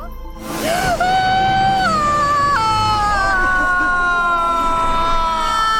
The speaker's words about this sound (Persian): فرمانده حتما لازم نیست خودتونم جیغ بزنید. لعنتی نمیتونم موقع انجام این کار جیغ نزنم. نگاش کن قطعا خیلی داره درد میکشه.